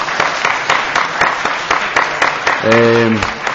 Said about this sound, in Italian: ma almeno lo prego di alzarsi in piedi, perché gli tributiamo un applauso e con sì.